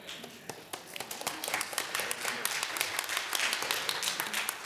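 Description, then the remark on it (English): An audience breaks into applause for a man back leading the singing, many hands clapping in a dense, steady patter that swells slightly and holds at a moderate level throughout, with no clear speech over it. “I don't think he wanted applause”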